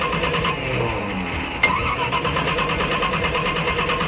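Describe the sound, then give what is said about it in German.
A car engine cranks steadily, its starter whirring with a rapid rhythmic chug that never catches, fairly loud, with a brief clunk partway through and no voices. “Das Auto springt nicht an.”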